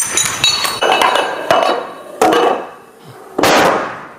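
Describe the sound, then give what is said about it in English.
Nine dominoes, from littlest to biggest, topple one after another in a string of sharp, hard clacks, unevenly spaced, with the later impacts sounding heavier, louder and more resonant. No one speaks. “Here are nine dominoes.”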